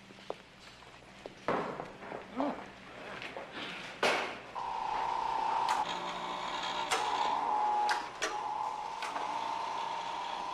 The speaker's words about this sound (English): Now, how does he eat? His digestive system is extremely simple. This processor dispenses a rudimentary paste that sustains his organic system. Tastes like baby food.